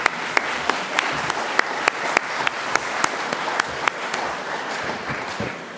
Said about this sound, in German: Alles ehrenamtlich, er ist vor allen anderen da. Ich finde, er hat einen Applaus verdient.